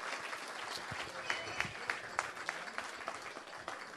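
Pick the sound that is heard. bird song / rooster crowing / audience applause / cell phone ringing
audience applause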